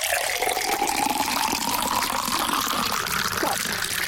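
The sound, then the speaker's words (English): Water pours steadily into a container for several seconds during a game show challenge called the Cathedral of Drench, a continuous splashing stream whose pitch rises gradually as the vessel fills. No one speaks. “Just shout stop before Matt spills water all over the carpet. Okay, here we go. Commence the pour.”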